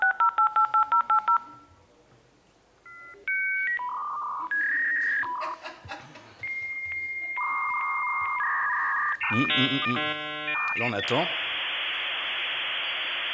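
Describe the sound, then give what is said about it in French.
A 56K dial-up modem dials a rapid string of touch-tones, then screeches through its handshake of warbling tones, beeps and buzzy static ending in a loud hiss, with a brief voice speaking early on. “Un modem, 56K.”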